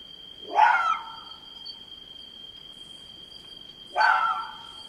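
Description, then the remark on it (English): A fox gives its normal night-time bark: two harsh, piercing screams about three seconds apart, each shrill and wavering like a woman's scream, over a steady high insect-like whine in a quiet night setting. “Doesn't it sound like a woman screaming? It sounds like nightmare fuel. Yeah. This is their bark.”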